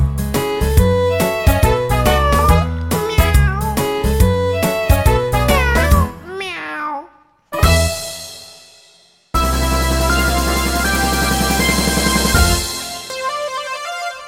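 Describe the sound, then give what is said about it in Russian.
A bright melodic tune plays, then a single drawn-out meow-like cry swoops up and down before more sustained musical tones follow; it may be an imitation rather than a real cat. “И мило мяукает, вылокав миску.”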